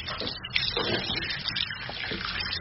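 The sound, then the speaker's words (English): Steady running water from a tap splashing into a basin while waiting for the water to heat up, a continuous hiss and patter with no pauses and no voices. “It's just waiting for the water to heat up.”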